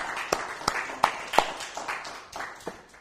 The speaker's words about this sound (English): Now, I tell you, I think we ought to clap on that one. I do. Amen.